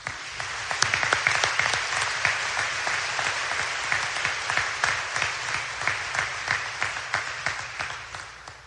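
Sustained applause from a sizable audience, dense clapping filling the space for several seconds with a steady, slightly pulsing rhythm and no voices standing out.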